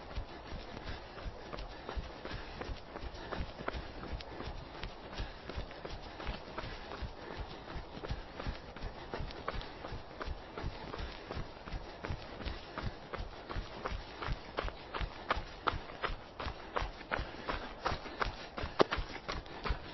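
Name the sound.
running footsteps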